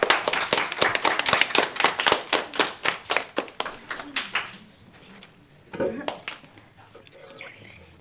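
Applause welcoming the news segment on the show 100% AV, with sharp, evenly spaced claps that start loud and gradually fade over about five seconds, leaving a quieter stretch broken by one short burst of sound.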